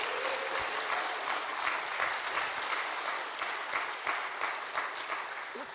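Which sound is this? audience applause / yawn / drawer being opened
audience applause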